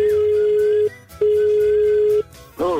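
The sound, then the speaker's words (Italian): A telephone rings over the line during a prank call as two long, steady electronic tones separated by a short pause, then a voice briefly picks up at the end. “Che sa andare a cominciare con queste telefonate?”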